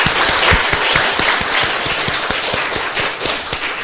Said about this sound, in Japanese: 今日はこの方たちの集まりがあるようで、団体ゆとりかな、大勢来て一緒に来てくださいました。歓迎の拍手をいたしました。